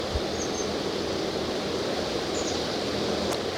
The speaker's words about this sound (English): It's kind of windy.